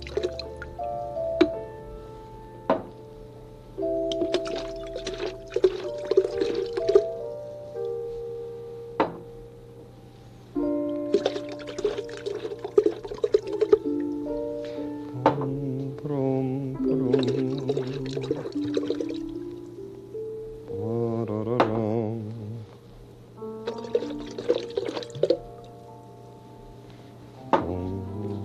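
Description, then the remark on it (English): Fruit juice is poured repeatedly into bottles, the gurgling, dripping stream rising in pitch as each one fills, in several separate bursts with short pauses between. “Fun to pour, isn't it?”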